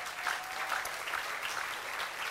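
An audience claps steadily, a dense, continuous patter of many hands at an even level for a couple of seconds, with no voices standing out.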